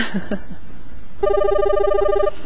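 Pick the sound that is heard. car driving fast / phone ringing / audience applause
phone ringing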